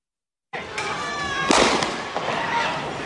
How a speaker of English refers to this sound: And at that point, you hear the gunfire